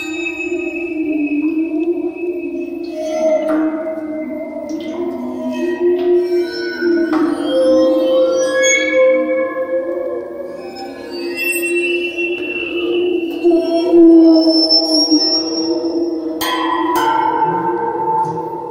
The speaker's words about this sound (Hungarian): Ezt a hangszert úgy hívják, hogy aquafon. Két szembefordított kerek acéltálca, ami közé egy nagy csövön vizet lehet beönteni, és erre az acéltálcára körbe pedig ilyen kis résztüskék vannak forrasztva, amiket vonóval lehet megszólaltatni.